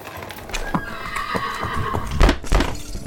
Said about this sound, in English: The Slovaks, with the heavy wagon, are losing their ground. Now the horses are not more than a mile behind. Now the wagon is quite close to us. We can see the great box swaying gravely. Now they are almost upon us.